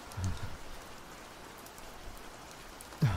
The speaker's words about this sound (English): And as you can see, there's this horrible storm.